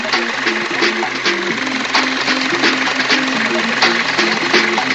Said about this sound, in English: The jacks are whirring, and the guide wheels go down.